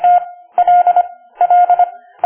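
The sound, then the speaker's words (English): Morse code beeps: a steady mid-pitched tone keyed into quick groups of short and longer pulses, separated by brief pauses, with no voices. “Morse code. The way in which people in the past would send messages.”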